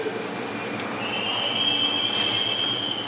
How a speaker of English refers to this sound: because of the subway that we're on, because of the historic architecture and low housing prices, it's a neighborhood that's vulnerable to gentrification.